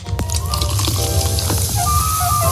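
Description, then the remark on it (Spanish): A sharp pop as a can is cracked open, followed by a steady, fizzing hiss of carbonation that continues for a couple of seconds with small crackles and bubbling. “Es el sonido de una lata abriéndose”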